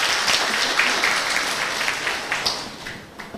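applause

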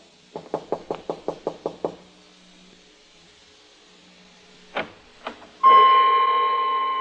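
knocking on a door

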